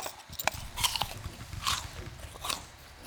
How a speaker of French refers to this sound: Il voit un âne qui mange tranquillement des pommes rangées au-dessus d'une vieille armoire.